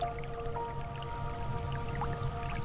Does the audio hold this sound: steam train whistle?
no